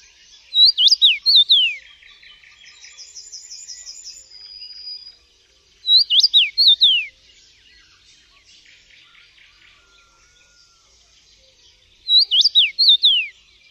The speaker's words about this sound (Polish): Głos dziwoni jest bardzo łatwy do zapamiętania i często jest jednym z pierwszych ptasich śpiewów, którego uczą się młodzi adepci ornitologii.